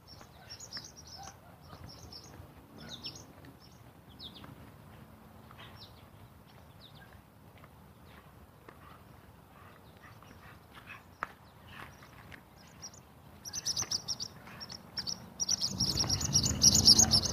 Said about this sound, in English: I don't know if you can hear the barn swallow. I don't know, they're barn swallows or tree swallows or swooping around my head there for a few minutes, picking off the bugs.